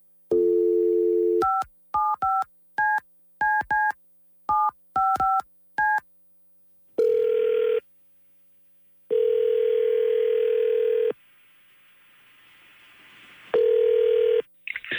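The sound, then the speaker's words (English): A brief dial tone gives way to a quick run of about ten touch-tone beeps, then a phone line rings back in long, loud, evenly spaced buzzing tones with quiet gaps between. “Okay, we can make the phone call for you.”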